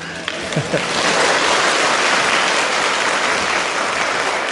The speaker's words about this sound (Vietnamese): Cảm ơn những tràng vỗ tay cổ vũ.